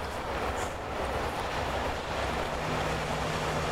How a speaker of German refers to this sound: Behold, U-Bahn. Die ist aber einigermaßen leer.